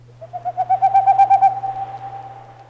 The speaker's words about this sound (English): I was pretty sure my own area was too far south, but hope springs eternal in a birdwatcher's heart, so I listened as hard as I could for anything that even remotely resembled a boreal owl.